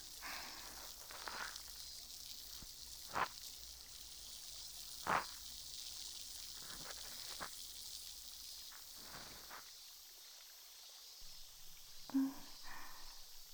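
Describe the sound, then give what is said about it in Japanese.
Soft, steady fizzing hiss of liquid on the tip of a cotton swab, scattered with faint crackles and a few sharper pops, dipping quieter near the end before a couple of last snaps. “パチがちょっと弱くなっちゃったかな。”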